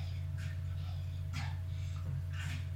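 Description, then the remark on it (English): Several muffled barks from a hyperactive dog come in irregular bursts, fairly faint over a steady low electrical hum. “She's barking, she's barking.”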